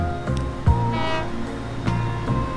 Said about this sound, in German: Kaufen wir eine neue Linie von Eberholzen Hauptbahnhof durch Kötz Hauptbahnhof bis nach Neumünster. Und hier fährt los unsere Lok.